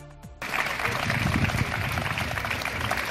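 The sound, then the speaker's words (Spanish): Sustained applause from a sizable crowd of lawyers ending a morning protest before the High Court of Justice of Galicia in A Coruña, calling for courts to resume after successive strikes; steady and fairly loud, beginning abruptly after a brief moment of quieter sound and continuing dense and even to the end. “Una protesta que concluía con este aplauso.”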